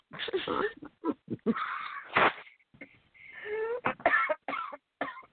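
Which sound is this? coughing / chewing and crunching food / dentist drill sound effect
coughing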